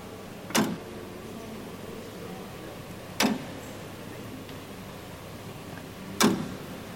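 A mechanical clock, just unblocked by removing a doorstop-like wedge, ticks slowly as two weights rotate back and forth. Three crisp clicks come about three seconds apart over a faint low background hum, with no voices.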